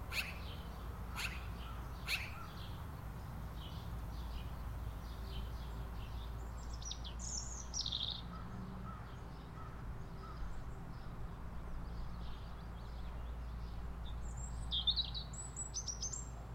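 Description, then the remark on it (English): Magpies call in harsh, chattering bursts scattered over a steady outdoor hiss and low rumble, some calls louder, others fainter, with no one talking. “Maybe hearing the magpies again is what got me thinking about birds in the first place.”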